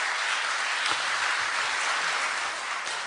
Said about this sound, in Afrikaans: ek dink ons moet 'n applous vir jou gee. Net vir Sally Caravan.